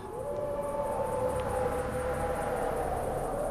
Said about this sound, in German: In der Ferne heulte ein Wolf